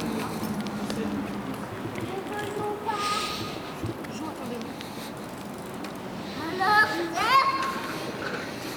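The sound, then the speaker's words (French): Children's voices chatter and call out as they play and ride bicycles in a park, with a busy background of scattered footsteps or hoof-like clopping and occasional louder shrieks toward the end. “Et des enfants qui jouent.”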